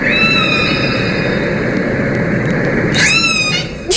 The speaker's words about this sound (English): Killer whale sound. Orca sounds, yeah. Okay. Play this. 10 hours orca killer whales chasing. Oh, my God. That's insane. It sounds like a horror movie.